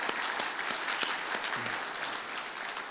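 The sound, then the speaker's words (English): An audience applauds steadily for the Awana leaders and volunteers, a dense wash of many hands clapping at an even volume throughout, with scattered sharper claps standing out from the crowd. “The gospel was proclaimed, there was prayer, there was energy, and so a round of applause to our Awana leaders and volunteers for their great work.”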